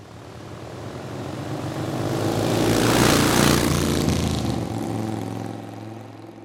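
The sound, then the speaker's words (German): Motorcycle engines drone as they approach, swell to a loud roar at the midpoint, then fade away again in a steady pass-by, with no voices present. “Das und Motorräder.”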